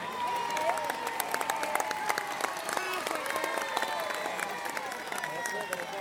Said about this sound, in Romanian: Iată că avem și cea de-a treia câștigătoare. Aplauze pentru toate cele trei fetițe câștigătoare.